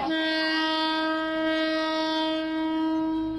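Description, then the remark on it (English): A train's horn blares in one long, steady, loud blast, a dense chord held for several seconds over a low rumble, with no voices, as the train passes along a track lined with people, awnings and shops. “But as the end of the train goes by, suddenly the track fills up with people and with awnings and with shops, and within 15 seconds of the train having passed by, it's as if there were no train tracks, as if there was no train.”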